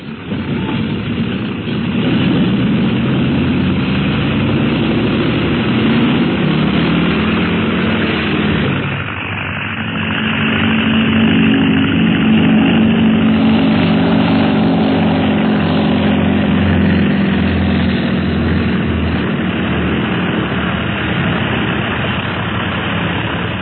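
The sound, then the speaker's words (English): A propeller airplane engine roars steadily, then revs higher and louder after a brief dip as the plane takes off on a flight to Tibet, a continuous droning hum with no voices. “Pressed for time, Clint leaves Ying in charge of the ground crew, and we find the plane just about to take off on the flight to Tibet.”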